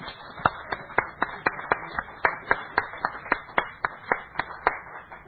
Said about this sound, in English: Here it is 7 years later, and there he is. Praise God. Yeah, you can cheer the Lord.